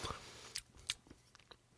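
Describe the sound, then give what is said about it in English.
Quiet chewing of a wafer with a soft, papery outer texture and a chewy filling that sticks in the teeth, with a few soft crunchy bites and sticky mouth sounds, irregular over a couple of seconds, with no talking. “So the wafer is filled with chew, which is getting stuck in my teeth.”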